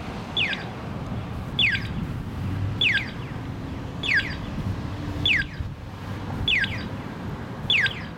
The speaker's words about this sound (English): I went and got some sound to let people know what this sounds like. This is what people are hearing now when you push the crosswalk for walk across Main Street.